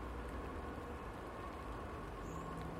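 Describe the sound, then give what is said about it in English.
A steady, even wash of rain falls outside, a constant soft hiss with no breaks and no voices, continuing unchanged throughout. “Although I don't suppose they worry too much about things like rain.”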